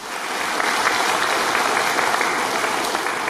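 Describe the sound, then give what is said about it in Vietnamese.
A crowd of people breaks into steady applause, dense overlapping claps sustained at an even level for a few seconds, with no voices over it. “Rồi, tròn tràng pháo tay.”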